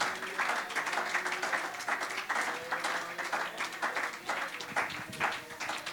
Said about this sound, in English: Can you say praise the Lord? Amen. Let's just give him a hand clap of praise today.